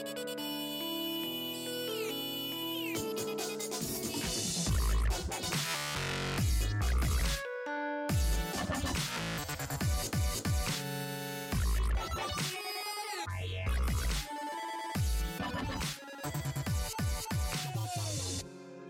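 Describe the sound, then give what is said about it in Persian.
An electronic dance remix of the famous Nokia ringtone melody, made by an Italian DJ as the winning entry of a worldwide Nokia contest, with bright synth leads, heavy beats and chopped, stuttering breaks. It plays loud and continuous with no talking. “شرکت نوکیا یه مسابقه جهانی برگزار کرد و از کاربران خواست تا بر اساس همون ملودی معروف نوکیا یه نسخه مدرن و متفاوت بسازن.”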